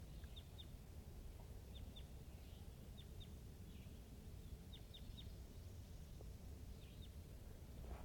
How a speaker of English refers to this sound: So recording, this is a wild crossbill to the east of the net site, up on the top of the hill, calling from the distance.